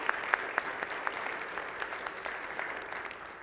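An audience at an evening worship service claps steadily for a few seconds for two people, a dense patter of many hands with a few sharper claps standing out near the start.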